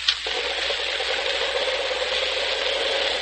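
A Cyclone aircraft engine runs steadily on a test stand in a test cell, a loud, continuous roar with a constant droning hum underneath. It stays unchanging throughout, with no voices.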